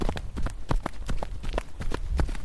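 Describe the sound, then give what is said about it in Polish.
A group of people running together through a forest, their footsteps thudding in a quick, overlapping rhythm on soft ground, steady throughout with no talking. “Proszę państwa, całą ekipą biegniemy.”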